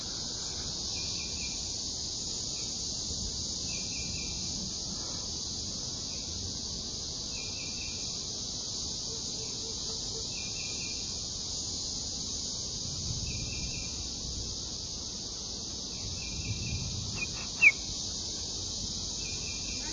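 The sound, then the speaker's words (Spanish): Cicadas drone steadily at a lookout point in a continuous high-pitched buzz throughout, with faint pulsing chirps layered on top and soft low rustling beneath; one brief sharp click near the end. “Las chicharras de fondo otra vez y un pájaro por ahí que se llama Pio Pio Pio.”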